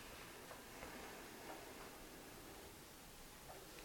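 A clock ticks softly, its faint ticks spaced unevenly against a steady hiss of background noise. No one speaks.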